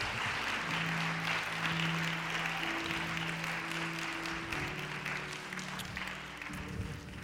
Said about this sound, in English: Come on, give the Lord a hand clap of praise if you can right now.